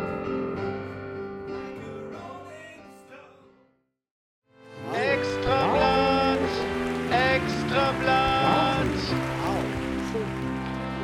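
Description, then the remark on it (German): Audience applause at a performance, a dense crackling patter that fades out, breaks off into brief silence, then surges back loud and steady with cheering voices rising and falling over the clapping. “Eigentlich das Publikum, die Publikumsreaktion.”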